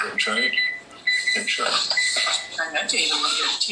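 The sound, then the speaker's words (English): A microwave oven dings with bright, high electronic tones that ring out and linger across a few seconds, while voices murmur underneath. “Oh, somebody's got a microwave they just dinged?”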